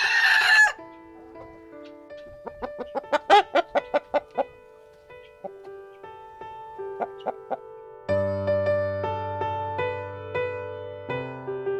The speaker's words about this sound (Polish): Trzeba zaalarmować. No też u nas właśnie koguty tak alarmują.